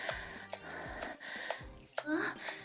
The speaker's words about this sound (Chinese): 看我魅惑的眼神，听着我故意的喘息，是不是特别有感觉呀？